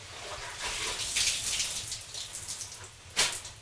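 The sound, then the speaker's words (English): Water splashes onto hot sauna stones, setting off a steady hiss of steam that swells and fades over several seconds, then a sharper sizzling burst near the end. No one speaks. “That's when you throw the water with the hot stones.”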